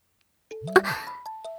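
A phone rings with an electronic tone: a sequence of steady, sustained beeps stepping between a few mid-range pitches, with a short sharp click early on. No one speaks.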